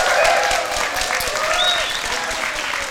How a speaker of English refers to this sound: And can we have a huge round of applause for this person?